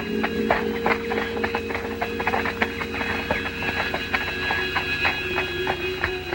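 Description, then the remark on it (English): Horses' hooves clip-clop steadily over a hard surface as the horses are led through a deserted alley inside castle gates, a brisk run of overlapping hoofbeats with a faint steady hum underneath and no voices. “Inside the gates, they lead their horses through a deserted alley.”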